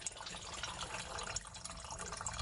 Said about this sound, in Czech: Sva rakija prolazi kad curi iz kazana, sva prolazi kroz tu flašu i vodu. I onda sve što ne volja u toj rakiji ostane u toj flaši.